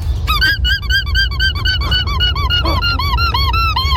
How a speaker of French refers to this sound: J'ai découvert un truc de zinzin, les amis. Le cri du lama. Oh. Le lama fait le même cri qu'un jouet pour chien qui fait couic-couic. Écoutez.